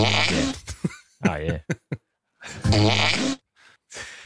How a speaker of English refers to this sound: That was a waiter farting in front of Paul Blart, Mall Cops 2 family. Yeah. Was it a whoopee cushion or something? Or he just got him? Good fart.